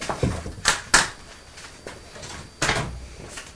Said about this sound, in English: That's making a funny noise when Mummy's pulling the cards off the door. They're stuck to the door.